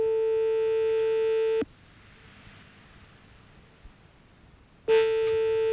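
A telephone ringing tone heard down the line while calling a petrol station in Lyon: a steady electronic buzz-tone lasting about a second and a half, a long quiet pause, then the next ring starting, with no voices.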